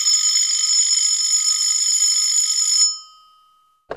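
A telephone rings as a call is placed in Mexico City to a grandmother: one long, steady, high electronic buzz that holds for almost three seconds, fades out, and ends with a brief click, with no voices.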